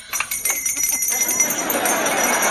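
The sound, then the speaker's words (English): Small bells jingle in quick, repeated shakes for about a second, bright, then their ringing blurs into a sustained shimmering wash. “Whose idea was it to give him those bells anyway?”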